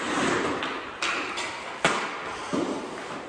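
A few sharp hockey pucks thud against the boards of a backyard rink in Canada, with three distinct knocks spaced irregularly over a steady, hissing outdoor ambience.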